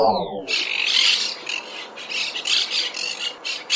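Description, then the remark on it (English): Harsh, raspy squawks of monk parakeets, green and gray parrots nesting in Chicago, repeat in quick, overlapping loud bursts, with a brief descending whistle-like tone at the very start before the chattering calls take over. “Despite being known as monk parakeets, the green and gray squawkers are true parrots”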